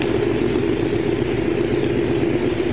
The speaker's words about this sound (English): And with the last burst, the engines go slowly dwindling away until the air screws are stopping.